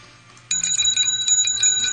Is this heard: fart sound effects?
no